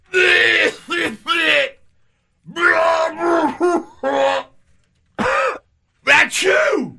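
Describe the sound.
A voice imitates a fellow airplane passenger sneezing during a flight, a run of about ten short, loud, strained bursts in uneven clusters, each a pitched vocal cry ending in a hissy burst, with brief pauses between.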